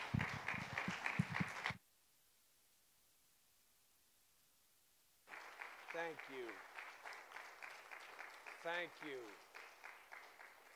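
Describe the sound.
A large church audience at HTC stands and claps loudly and steadily to welcome a guest speaker, then a few seconds of near silence, after which the dense applause resumes with scattered voices calling out and cheering over it.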